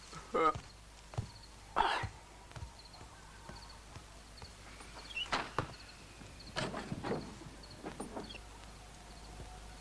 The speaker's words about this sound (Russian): Вроде дверь хлопнула.